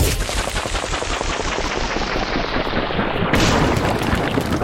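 A game sound effect for throwing a rock: a loud, dense, crackling rattle of rapid hits that runs without a break and turns brighter and harsher near the end. No voices.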